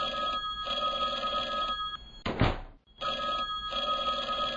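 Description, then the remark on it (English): A telephone bell in an office rings loudly in long repeated bursts, briefly broken by a dull clunk and a moment of silence before the ringing starts again. “Ringing had stopped just as he had gotten to the phone.”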